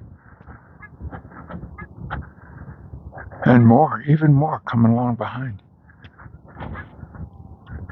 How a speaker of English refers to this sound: It's 21 degrees this morning. It's, beautiful blue sky morning here on the high plains east of the Rocky Mountains in Greeley, Colorado. I forgot that part. I got sidetracked by geese.